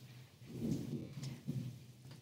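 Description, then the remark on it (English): A quiet thunderstorm: low rolling rumbles of thunder swell and fade over a steady hiss of rain, with no voices present. “the frequent thunderstorms of South Florida. This is actually one of my most soothing noises that's happening in the background right now”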